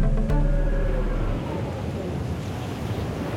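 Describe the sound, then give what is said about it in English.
Steady, loud roar of wind and rough waves on the Southern Ocean, winds up to 150 km/h whipping up waves 10 metres high, a continuous rushing wash with a low droning hum underneath during the first second or so; no voices. “Winds of up to 150 kilometres an hour tear across the water, whipping up waves 10 metres high.”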